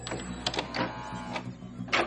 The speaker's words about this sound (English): As I pushed this drawer back, a hidden side panel in the wall opened, and it looks like there's something inside it.